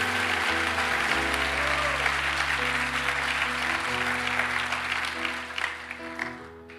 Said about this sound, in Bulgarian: О, ако ръкопляскаш, ръкопляскай, като че наистина вярваш в Исус. Хайде, дай Му слава!